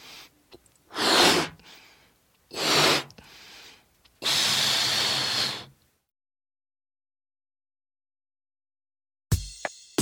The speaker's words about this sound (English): Mm-hmm. I am blowing up the balloon.